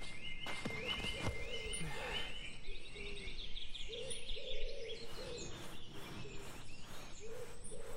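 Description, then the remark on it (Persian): Busy bird chirping, with many short, bright tweets repeating in quick succession over a steady low background rumble, fairly loud and continuous throughout. “یک کم میخوای پرنده؟”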